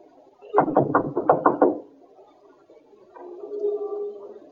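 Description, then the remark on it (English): Police officers knock on a front door: a quick burst of about six firm, evenly spaced, fairly loud knocks, then a lull and a softer, steady low hum. “Knock. And stand aside.”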